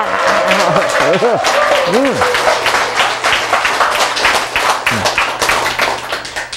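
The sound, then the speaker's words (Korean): A lecture audience bursts into sustained clapping, a dense patter of many hands. Voices shout and call out over it, with rising and falling exclamations cutting through the applause. “그게 박수란 거예요.”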